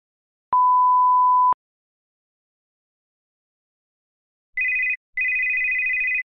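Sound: telephone ringing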